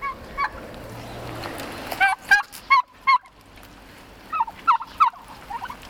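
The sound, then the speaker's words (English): Friendly, hand-raised turkeys with blue faces and orangish red heads gobble and call in short, warbling bursts, several rapid calls clustered together with brief pauses between, moderately loud over a soft outdoor background. “they have a beautiful blue face and an orangish red head. And they're very docile.”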